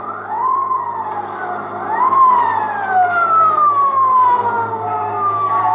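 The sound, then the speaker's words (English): A motorcycle police siren on Route 4 wails loudly, its pitch climbing sharply then sliding slowly down, repeating in long rising-and-falling sweeps with no voices. “And it ain't long before I hear that old familiar sound, a motorcycle siren.”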